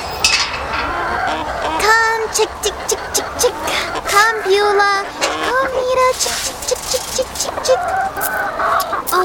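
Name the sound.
chickens clucking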